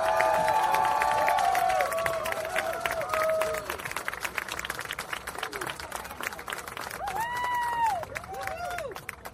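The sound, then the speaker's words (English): An audience breaks into sustained applause for author Naomi Klein, a dense wash of rapid clapping that holds steady throughout, with scattered whoops and cheering voices rising above it at the start and again near the end. “So join us in a rousing applause for Naomi Klein.”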